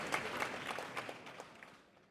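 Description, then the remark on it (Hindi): A crowd at a competition applauds and shouts, with dense, crackling claps and a murmur of voices, loud at first and then gradually fading away over about two seconds. “लेकिन लोगों के शोर और तालियों की गड़गड़ाहट में कुछ बोल नहीं पाए।”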